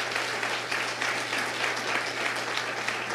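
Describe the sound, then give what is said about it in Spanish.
Sustained applause of an audience applauding God during a sermon, a dense, steady wash of many hands clapping at an even loudness throughout, with a low constant hum underneath and no voices. “Dale un fuerte aplauso a tu Dios, si es tu Dios.”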